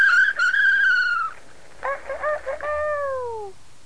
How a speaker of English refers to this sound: That's the rooster. You know what the rooster says? Cock-a-doodle-doo. Cock-a-doodle-doo. You want to hear that one? Pull the handle down. Pull the handle. The rooster says...